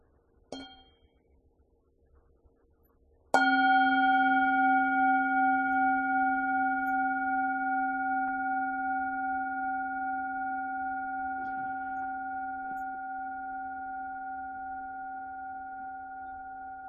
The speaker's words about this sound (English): Let's have a bell.